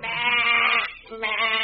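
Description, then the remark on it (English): Two loud, wavering bleats from sheep loaded on a row of cattle ships at a dark, damp waterfront: a long quavering baa, a brief pause, then a second bleat starting up. “I noticed a row of cattle ships all loaded with sheep.”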